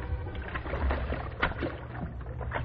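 A lifeboat carrying the crew of a merchant ship torpedoed off the east coast rides on the water, with steady sloshing and splashing over a low, rumbling wash and a few soft knocks. No one speaks.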